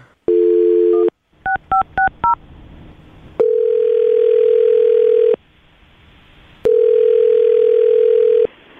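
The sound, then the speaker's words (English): A steady dial tone, then a quick run of touch-tone key beeps, followed by two long ringback tones with a pause between them, loud with no talking, as a phone call is placed. “All right, you ready to make the phone call?”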